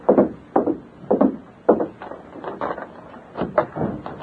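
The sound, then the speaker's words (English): A door of a first-floor hotel room being opened at midnight, with a run of uneven wooden thumps, rattles and creaks over a few seconds; no one speaks. “Stand to one side, Tonto, and cover me while I open the door.”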